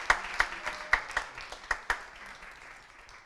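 An audience applauds, a dense wash of many hands with several sharp, louder claps standing out in an uneven rhythm, then tapering off after about two seconds.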